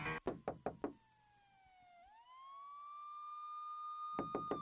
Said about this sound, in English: Who is that knocking at the door? Why you out there banging like the police?